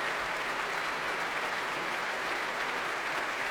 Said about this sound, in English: And now, very touchingly, the whole orchestra refuse to come to their feet and applaud not himself, their conductor. The brass, the woodwind clapping, the strings tapping their desks with their bows. But they do come to their feet.